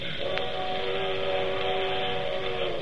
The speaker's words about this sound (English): That's the only thing I don't like. Them train whistles.